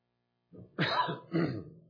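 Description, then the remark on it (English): A person clears their throat and gives a couple of short, rough coughs, two main bursts in quick succession with no talking. “That's why there's a cough button on my mic.”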